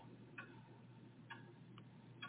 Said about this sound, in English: I sweat at every minute past as the tick-tock of the giant clock then intensifies into a madness reverberating a loud clang of steel.